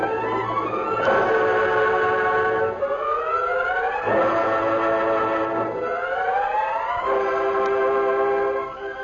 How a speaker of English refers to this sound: Half an hour after the train pulled into town